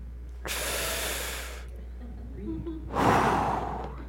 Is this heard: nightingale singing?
no